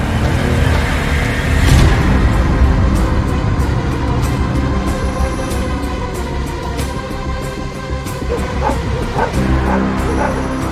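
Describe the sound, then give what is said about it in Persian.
Several search dogs, given a scent sample to track someone through a forest, bark and yip in a busy, overlapping chorus, with occasional whimpers, loud against a steady rumble of outdoor background noise. “نمونه هایی که از من کشف کردیم و بدین سگا بو بکشن.”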